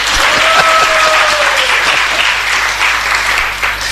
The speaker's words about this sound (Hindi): फिर तालियां बजाओ।